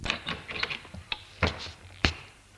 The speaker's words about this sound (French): Arrivé au 3e étage, il sonne. La porte s'ouvre.